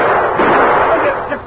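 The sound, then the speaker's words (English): Pistol gunshots as the Lone Ranger fires his gun from the hip, in a loud, rapid barrage that blurs into one dense, crackling burst with few separate reports, holding steady for about a second and a half with a muffled, narrow tone. “He saw the situation, slapped Bob to one side, come up with his gun firing from the hip, and put a bullet through that buzzard's shoulder.”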